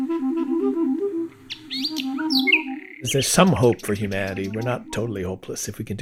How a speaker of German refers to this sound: Und … selbst war überglücklich, als er nun, wenn auch transatlantisch virtuell, mit der Nachtigall in Berlin Musik machen konnte.